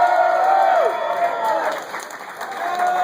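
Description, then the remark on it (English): A crowd applauds steadily for a few seconds, with scattered whoops and cheers rising over the dense clapping, fairly loud throughout. “How about a round of applause for Trader Vic for this really nice guy?”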